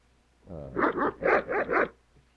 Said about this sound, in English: The dog piano.